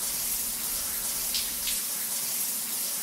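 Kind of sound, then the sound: household object, shower water running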